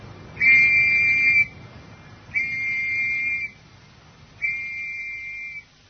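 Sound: whistle signal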